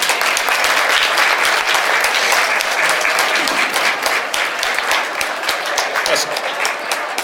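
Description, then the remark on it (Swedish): Sustained audience applause, a dense steady wash of many hands clapping at even loudness for several seconds, with no one speaking over it, as the 2011 AMI prize is awarded to Komvux-kärnan in Helsingborg. “En applåd!”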